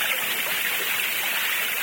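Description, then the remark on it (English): Steady, rushing roar of a waterfall, a dense hiss of falling water that stays loud and unbroken throughout, with no voices. “He might be behind the waterfall.”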